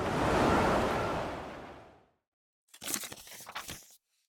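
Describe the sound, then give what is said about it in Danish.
A loud, roaring rush of whirling wind from a waterspout surges and fades over about two seconds. After a brief silence, a shorter crackling, gusty burst follows. “Det er en skypumpe, råbte Storm og greb Sol i armen for at trække hende med indenfor.”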